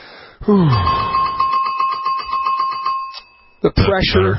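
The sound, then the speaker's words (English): A bright bell chime rings out loudly, its clear tones sustaining and slowly fading for about three seconds before someone briefly starts talking. “The bells ring.”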